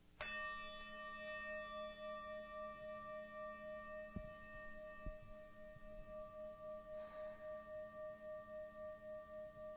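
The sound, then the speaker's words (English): A meditation bell is struck once, then rings on for several seconds, its bright overtones shimmering and wavering in a slow pulsing beat as the tone gradually fades. A couple of soft thumps occur midway. “And so I'm going to invite you to do that as I ring this bell.”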